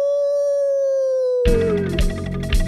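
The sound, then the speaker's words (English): A voice imitates a coyote howl, holding one long, steady note that slowly sinks in pitch before loud, busy music bursts in halfway through and carries on. “What's a coyote to do but howl at the silvery moon?”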